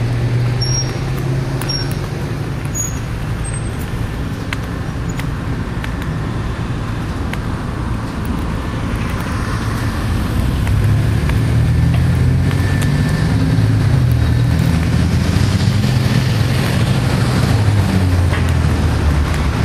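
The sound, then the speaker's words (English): Steady outdoor street noise recorded while walking along a street, with a continuous low rumble of passing vehicles swelling louder in the second half, with no talking. “Just a walk in the street.”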